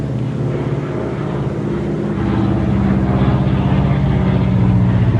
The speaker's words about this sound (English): I think it's a seaplane. A seaplane.